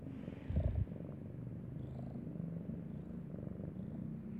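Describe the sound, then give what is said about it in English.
A cat purrs steadily up close, a low continuous rumble that runs the whole time, with a brief louder burst near the start. No one speaks. “I like it when they like purr and then try to meow at the same time, so it sounds like a bird chirp.”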